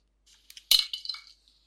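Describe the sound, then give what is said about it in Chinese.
A few ice cubes clink and rattle into a glass of red wine: a sharp initial knock followed by a short scatter of bright, tinkling taps that fade out within about a second, clear with no talking. “在里面放几块冰块吧。”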